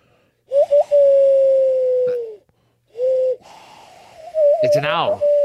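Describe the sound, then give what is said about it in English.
A person imitates an owl with long, steady, hollow hoots, three drawn-out calls, the last one wobbling and breaking into a breathy, fluttering warble, fairly loud. “It's an owl.”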